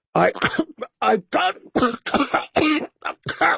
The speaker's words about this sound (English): all the wine came spewing back out when another spate of coughing doubled him over. His face was turning red.